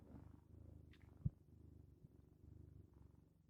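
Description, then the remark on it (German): A male cat purring while held in someone's arms, a steady low rumbling that rises and falls in rhythmic pulses, with a brief bump or thud partway through and no talking; about 10 seconds of purring. “Das waren ungefähr 10 Sekunden Katzenschnurren.”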